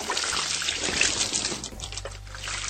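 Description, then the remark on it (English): Wet gushing and gurgling of a Japanese girl vomiting into a man's mouth, a steady splattering liquid pour lasting a few seconds, with no talking. “So this girl is puking in another dude's mouth, and I don't think he likes it.”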